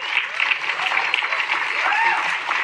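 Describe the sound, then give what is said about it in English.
A crowd applauds steadily, a dense wash of clapping that holds at an even, fairly loud level throughout, with faint voices rising and falling beneath it. “That should have gotten more applause”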